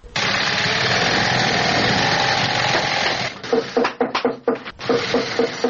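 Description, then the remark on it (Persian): A steady mechanical whir of sewing machines in a shoe factory in Kabul, Afghanistan, runs loudly for a few seconds, then breaks into choppy, rapid bursts of stitching with short pauses between. “یکی از کارخانه های تولید بود در شهر کابل که کارگرانان با دلسردی تمام و نامید از یک آینده روشن چکش می زنند و چرخ ماشین های بودوزی را با صدا در می آورند.”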